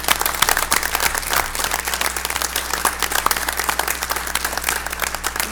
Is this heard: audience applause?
yes